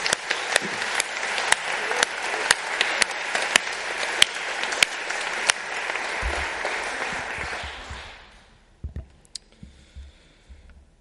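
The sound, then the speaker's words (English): A crowd of people claps steadily for about eight seconds, a dense crackle of hands with a few sharper claps standing out, then it fades away, leaving only scattered faint noises. “Let's give a faith applause.”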